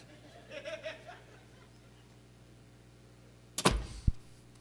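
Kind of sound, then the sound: household object, door being shut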